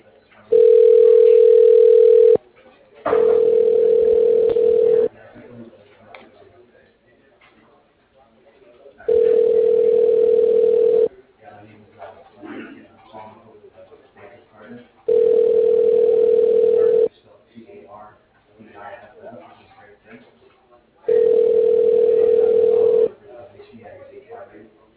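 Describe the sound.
A phone ringback tone rings out on an outgoing call, five steady mid-pitched two-second bursts repeating at regular intervals, with faint murmuring voices in the gaps between rings.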